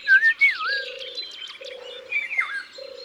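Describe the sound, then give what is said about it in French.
A Eurasian golden oriole, hidden in the foliage at the top of trees, sings short, fluty, whistled phrases with liquid downward slurs, set over a busy chorus of other birds chirping and a low steady coo-like hum repeating beneath. “C'est très flûté, musical, en phrases courtes.”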